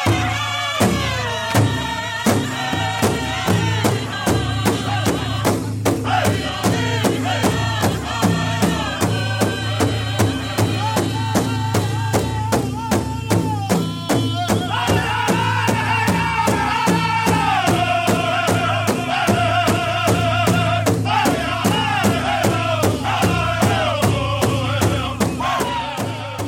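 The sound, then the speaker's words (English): Southern powwow style drumming and singing of an intertribal song: a loud, steady, evenly spaced drumbeat pounds throughout while a group of men's voices sings together in a lower tone in strong, sustained, wavering lines over the beat. “Well, let's compare that now with an example of southern powwow style.”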